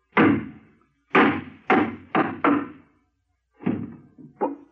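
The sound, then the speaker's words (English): Hollow, resonant knocks of a hammer striking a wooden box that has a false bottom: one blow, then a quick run of four, a pause, and three more, each loud and sharp with a brief woody ring. “you still got that hammer?”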